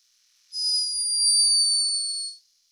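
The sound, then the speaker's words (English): A sleeping hummingbird in Peru, recorded by a scientist, lets out one thin, high-pitched snore, a steady whistle-like tone lasting about two seconds and sliding slightly downward before stopping, with nothing else around it. “A high-pitched but unmistakable snore.”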